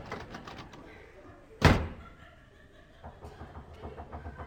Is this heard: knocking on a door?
yes